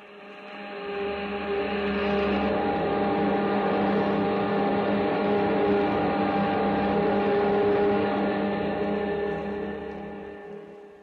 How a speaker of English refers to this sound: Those jet dynamos you see before you exist. Jet dynamos driven by the harnessed power of 1,000 suns. Listen, Earthman. Listen to them.